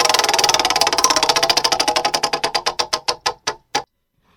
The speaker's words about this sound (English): And right now, as you do every day at this time, it's time to spin the wheel of questions. Spin it,